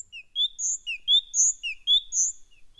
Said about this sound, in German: Habt ihr rausgehört, welcher Vogel das ist? Zitzel? Kohlmeise.